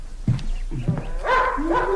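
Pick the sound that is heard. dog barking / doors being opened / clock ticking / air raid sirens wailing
dog barking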